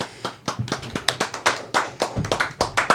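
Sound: one person clapping hands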